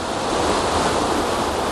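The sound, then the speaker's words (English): A waterfall gives a steady, dense roar of rushing, crashing water, with a constant hiss of spray coming off it and no voices. “And there's lovely spray coming off this waterfall.”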